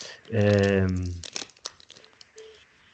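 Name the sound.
crinkling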